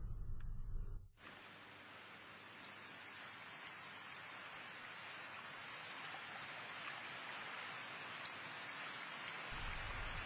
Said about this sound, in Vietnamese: Trời đang tiết tháng 10, một ngày nặng nề, mưa nhiều.